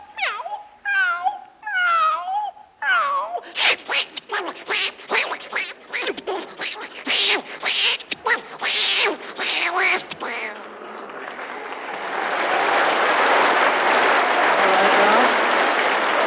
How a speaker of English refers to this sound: Now, for the benefit of the household pets of our listeners, let's have a cat fight.